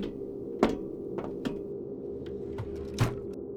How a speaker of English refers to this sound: Now, seeing as I had the pleasure of picking the lock, you can open the drawer and claim our prize.